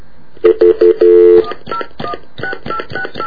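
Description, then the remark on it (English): A phone call is dialed to a payphone outside a 7-Eleven: three short tone beeps and a longer held tone, then a run of quick, evenly spaced electronic ringing bursts, clear with no one talking. “We're going to let this one ring until the cows come home, so...”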